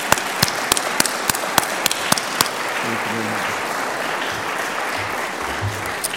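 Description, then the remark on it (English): A crowd applauds steadily for about six seconds at a campus ceremony, honoring faculty-voted award recipients as one stands. A few sharp, loud individual claps stand out over the first couple of seconds, and faint voices murmur underneath as the clapping continues. “would you stand one more time and we'll applaud you.”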